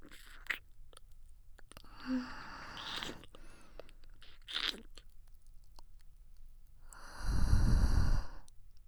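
A soft, breathy exhale very close to the microphone, lasting about a second, preceded by faint wet mouth clicks and small lip sounds in near silence.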